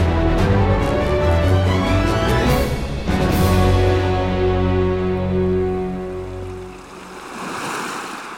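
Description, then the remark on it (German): Rushing water surges steadily as the Atlantic tide floods in over the mud of a riverbed, reaching boats lying there. A low sustained tonal drone runs beneath it, and the wash thins out toward the end. “Die Flut kommt herein.”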